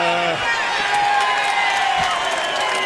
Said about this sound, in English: Well, we make sure we know that we weren't cheering because of the home run. We're cheering because you just made a great catch.